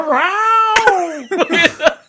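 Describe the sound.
A person imitates a house cat as a comedy bit, opening with a long, drawn-out wailing meow and following it with a rapid string of shorter, choppy yowls, loud with no other talking.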